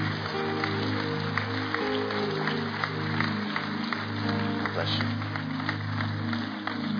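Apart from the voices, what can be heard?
audience clapping hands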